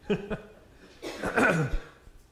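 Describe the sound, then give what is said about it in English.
Someone clears their throat: two short, low rasping bursts, a brief pause, then a longer, rougher scrape that trails off, with no talking. “I've got to clear my throat, too.”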